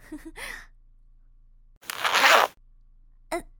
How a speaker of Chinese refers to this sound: 你怎么自顾自的就把自己的拉链拉开，把那东西掏出来了？